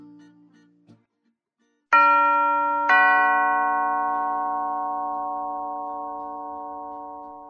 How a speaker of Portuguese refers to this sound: Toca a campainha.